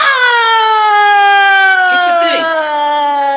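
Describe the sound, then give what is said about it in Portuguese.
A loud ambulance siren wails in one sustained, buzzy tone that slowly drifts downward in pitch over a few seconds, with no break in its steady volume. “Ambulância besta.”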